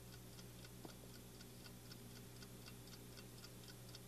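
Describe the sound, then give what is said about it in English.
A mechanical alarm clock ticks steadily, with sharp, high, evenly spaced clicks in a regular rhythm over a faint, constant low hum. No one speaks. “I brought an alarm clock to show you today.”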